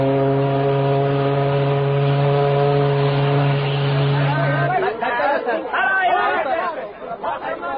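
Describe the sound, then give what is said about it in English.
A busy crowd at a boat landing on the Nile chatters in a continuous blur of overlapping voices, while a long, steady, low horn blast drones over it for the first five seconds before the babble carries on alone. “Awful crowd, as usual.”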